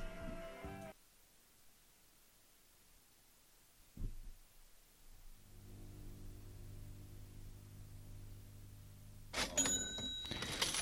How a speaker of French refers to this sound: On commence directement par un bruit de caisse enregistreuse et de monnaie qui tombe. Assez explicitement, on évoque l'univers de l'argent.